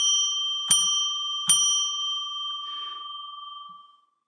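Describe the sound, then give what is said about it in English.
A bright bell is struck three times in steady succession to declare sacred space, each strike re-energizing a clear, lingering ring that slowly fades away. No voices. “After I ring the bell three times to declare sacred space.”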